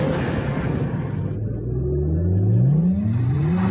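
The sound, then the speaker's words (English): The V8 engine of a nine-year-old car fitted with Firestone Destination tires revs loudly, its deep rumble climbing steadily in pitch as it accelerates over a few seconds, with no voices. “We took the power of a 9-year-old V8 and gave it the impressive handling of Firestone's Destination tire.”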